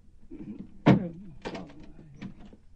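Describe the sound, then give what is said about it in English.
A chained door is unlatched and pulled open: one sharp metallic clack, then a few softer rattling clicks and knocks as the door swings, with no one talking. “You've got the door chained. Let me in, Grandpa.”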